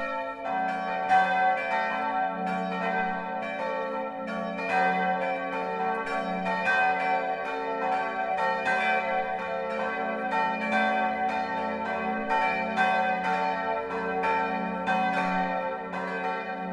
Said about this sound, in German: Es ist 12 Uhr. Das Mittagsläuten kommt heute von der evangelisch-lutherischen St. Martinskirche im mittelfränkischen Wörnitz.